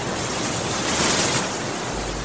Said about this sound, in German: Die Brandung des Indischen Ozeans. Wellen brechen sich am Strand von Port Alfred am östlichen Kap von Südafrika.